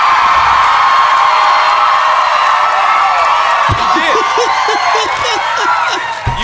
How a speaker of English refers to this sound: Maybe they're cheering because the woman won.